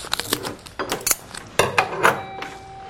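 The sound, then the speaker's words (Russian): A teapot being swapped for a clay teapot on a tea tray while brewing loose pu-erh tea: sharp clinks and knocks of ceramic teaware in an irregular run, with one brief ringing tone near the end and no talking. “Чтобы ничего не путать, мы просто заменим чайник. Испытаем следующий чайник, глиняный.”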